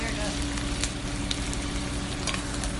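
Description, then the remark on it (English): Thyme popping in melted, foamy butter with shallots and garlic: a steady, loud sizzle with several sharp crackles and pops scattered irregularly throughout. “And then once the butter's melted, we're going to throw our thyme in. You're going to hear it popping.”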